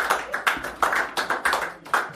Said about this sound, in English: another big round of applause.